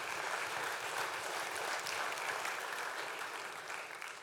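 A crowd claps steadily in a dense, even wash of applause that holds its level throughout, with a few faint voices mixed in, tapering slightly at the end.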